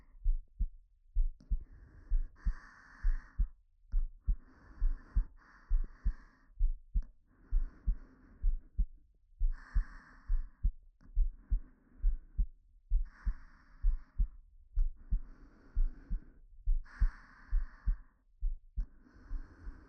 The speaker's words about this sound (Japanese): 胸大きくなくって、心臓の音です。じゃあ、顔をまた胸に近づけてください。そしたらわかると思うんです、そのドキドキが。